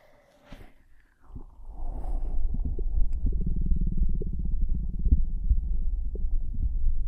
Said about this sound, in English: Okay, my tummy keeps making noises, so since it wants to ruin my ASMR, I will let you listen to my tum-tum next.